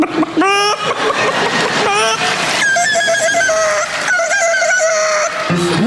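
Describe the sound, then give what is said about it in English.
A human voice loudly mimics a rooster's crow, with strained, warbling, stacked-harmonic calls rising and wavering in several long bursts, with no other sounds. “All right, here comes rooster.”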